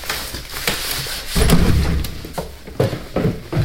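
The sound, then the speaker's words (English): A garage door rumbles open with a deep, steady mechanical drone, punctuated by a few sharp thumps and clanks over a constant background hiss. “And that's the garage door opening.”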